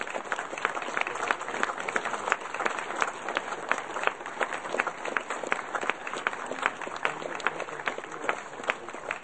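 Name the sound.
audience applause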